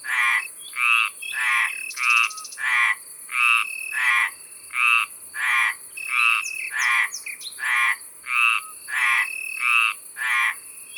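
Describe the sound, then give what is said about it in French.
Two male Mediterranean tree frogs, about 5 cm long, call in alternation at a pond, each defending his own corner; loud croaks repeat every one to two seconds in a steady back-and-forth rhythm, with a faint high hum of insects such as Italian crickets underneath. “Ce sont deux mâles qui défendent chacun leur coin du bassin en chantant.”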